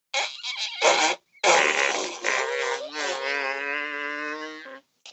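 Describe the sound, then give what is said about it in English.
A person blows a loud, wet fake fart noise into cupped hands held to the mouth, a few short sputters then a long buzzing raspberry that trails off. “Put your hands to your mouth and then you make a fart noise.”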